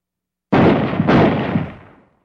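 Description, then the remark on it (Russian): Three heavy, muffled shots from a powerful rifle boom in quick succession in the distance, running together into a long, rolling echo that fades out over about a second. “Вдалеке глухо простучали три выстрела. Эта винтовка работает и мощная.”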